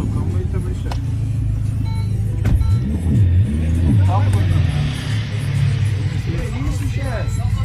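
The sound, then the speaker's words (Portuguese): A car engine drones steadily, a low continuous rumble as the vehicle drives along, with muffled voices occasionally rising over the noise. “ele para o carro em algum lugar”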